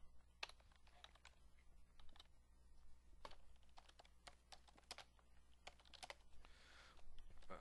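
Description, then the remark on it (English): Rapid computer keyboard typing while writing program code, a quick irregular clatter of sharp clicks with occasional louder key strikes, steady low hum underneath and no voices. “Sorry, guess I need to replace this keyboard.”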